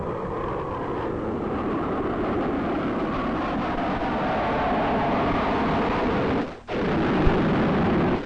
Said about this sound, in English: Just a minute, here comes the plane.